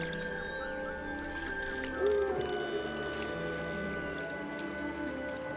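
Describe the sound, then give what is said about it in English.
Forest ambience with a steady, airy wash of wind and scattered animal cries, including a louder rising call near the middle. No one speaks. “As they row toward shore, they hear the sounds of the forest. Animal cries, whispering winds.”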